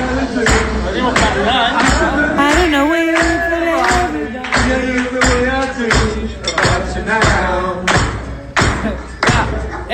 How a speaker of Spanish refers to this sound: Hay tenedores, platos.